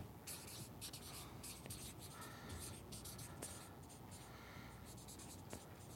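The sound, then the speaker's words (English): A pen scratches steadily across a surface in quick, irregular strokes, fairly soft, with short bursts and brief pauses throughout and no one speaking. “Time to switch pens.”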